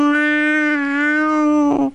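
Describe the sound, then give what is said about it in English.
A person imitates a cat with one long, drawn-out meow, a steady nasal tone that holds its pitch for about two seconds before wavering and breaking off at the end. “We're sitting at the table having a cup of tea and we could hear the cat.”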